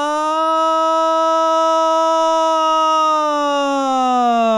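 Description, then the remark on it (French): A single voice does a siren vocal exercise, holding one steady, loud tone for about three seconds before sliding smoothly downward in pitch, with no other sounds. “Là, on est vraiment sur le principe de la sirène. Vous savez, cette sirène avec ce son qui tient très longtemps et qui redescend.”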